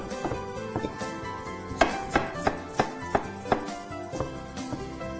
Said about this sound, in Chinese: 好，再来就是我们这个蒜切片。